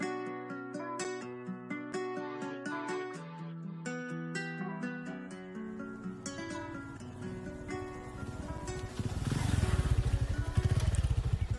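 A motorcycle engine revs through several gear shifts, its droning pitch climbing and dropping in steps, then swells into a louder, rougher roar near the end.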